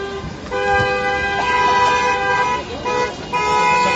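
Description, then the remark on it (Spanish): Several car horns honk together in long, sustained blasts that overlap into a steady, loud blare, with a brief dip before the honking swells again, as people protest from their cars in Mérida on a Sunday against the closure of non-essential businesses. “También protestas en Mérida este domingo, en este caso desde el coche.”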